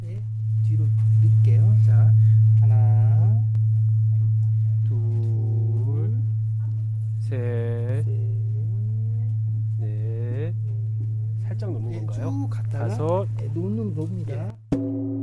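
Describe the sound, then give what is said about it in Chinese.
A large Buddhist temple bell at Mount Wutai, struck gently with a long striker, rings out with a deep, steady low hum that lingers through the whole recording while a person talks over it. “他用一个长长的钟锤轻轻地撞向梵钟，梵钟立即发出嘹亮深沉的钟声。”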